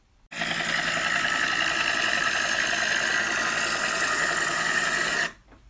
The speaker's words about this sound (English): That is the distinctive sound of the UH-1 Huey helicopter. It is most often described as a WAP. Officially named Yurquay, the Huey was the most common utility helicopter used in Vietnam.